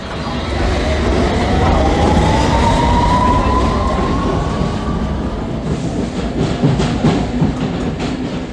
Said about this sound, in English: I'm now on the very first line built on the London Underground in 1863, the Metropolitan Line. The magenta line on the map, 41 miles long, serving 34 stations.